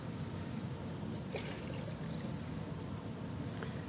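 Water splashes and pours steadily as water bowls are emptied before bed, a continuous wet gush with a few brighter spatters, fairly loud, with no voices over it.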